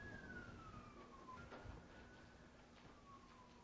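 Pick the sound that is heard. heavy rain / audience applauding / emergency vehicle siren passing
emergency vehicle siren passing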